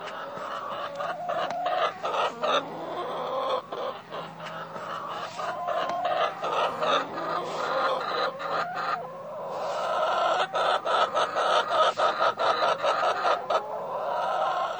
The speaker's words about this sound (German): Deswegen habe ich ein bisschen Hühnergackern mitgebracht. Und wir können ja mal alle testen, ob wir die emotionale, ja, Hühner emotional einordnen können.